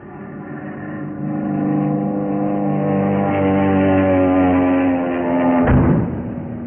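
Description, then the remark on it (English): A car engine roars steadily as the car speeds along at at least 75, pursued by a diving airplane; its low harmonic drone holds for several seconds before a sharp thud or jolt near the end, with no talking. “Swung the car around, too, but he's still going.”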